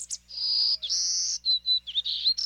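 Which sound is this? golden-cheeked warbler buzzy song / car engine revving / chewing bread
golden-cheeked warbler buzzy song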